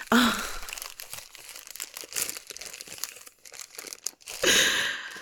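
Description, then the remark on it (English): A plastic bag crinkles and rustles as a shiny blue tentacle toy is pulled out of it, with irregular bursts of crackling and short pauses, loudest at the start and again near the end. “It's just a plastic bag.”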